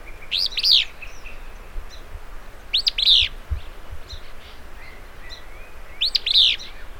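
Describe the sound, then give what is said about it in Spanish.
A willow flycatcher sings on a spring day on the way to a river in a delta, three short, sneezy high-pitched phrases spaced a few seconds apart, each a quick burst over a steady low rumble of background noise. “Mientras te diriges al río, el canto de un mosquero saucero.”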